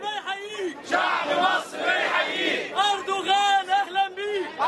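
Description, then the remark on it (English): A large adoring crowd, packed with Muslim Brotherhood supporters, chants and cheers in unison for Turkish Prime Minister Recep Tayyip Erdogan during his visit to Egypt, many voices rising and falling in loud rhythmic waves with overlapping shouts throughout. “During a visit to Egypt last year, Erdogan was mobbed by adoring crowds, packed with supporters of Egypt's rising political power, the Muslim Brotherhood.”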